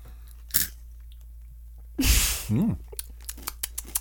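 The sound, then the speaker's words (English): Close-up crunchy chewing of a sweet, sugary Disney Mickey Mouse cereal: a loud crackling bite, a short vocal noise, then a run of quieter, evenly spaced crunches as the chewing continues. “It's crunchy.”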